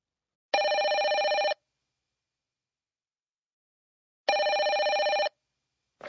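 A telephone rings in two loud, evenly spaced bursts of about a second each, with silence between them, and a third ring just beginning at the end. No one speaks.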